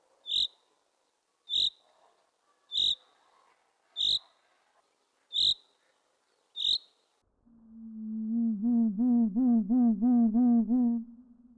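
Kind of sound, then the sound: bird, common chaffinch rain call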